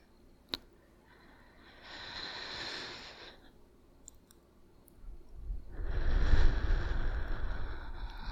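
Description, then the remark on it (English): Two slow, deep breaths in and out, a soft airy inhale followed by a longer, fuller exhale with a breathy rush, heard alone after a faint click at the start, as part of a guided breathing exercise. “I'll breathe with you for the first few.”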